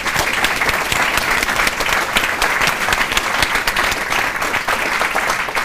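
An audience claps steadily for several seconds, a dense wash of many hands at an even, sustained loudness with no voices standing out.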